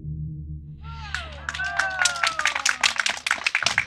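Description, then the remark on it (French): An audience bursts into applause for the schoolchildren of the Paul-Éluard school, a dense patter of many hands clapping that builds quickly and stays loud, with a steady hum and some tonal voice-like sweeps underneath. “Voilà, on entend les applaudissements.”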